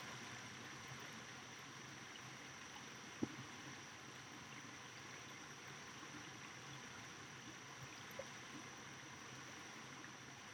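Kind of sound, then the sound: nature, flowing river water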